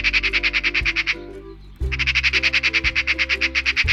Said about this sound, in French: La pie bavarde, la corneille et le corbeau sont aussi reconnaissables avec leur chant. Donc, on va écouter la pie bavarde.